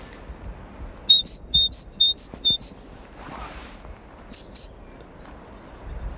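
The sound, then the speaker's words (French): A person whistles an imitation of chaffinch song in the Baie de Somme near Cailleux-sur-Mer: bright, high-pitched chirps and a quick descending trill, repeated in short bursts over a quiet outdoor background. “On va faire quelques chants d'oiseaux. Là, il y a un petit pinson.”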